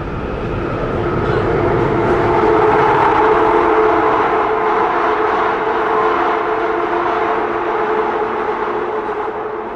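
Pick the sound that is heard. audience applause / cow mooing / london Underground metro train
london Underground metro train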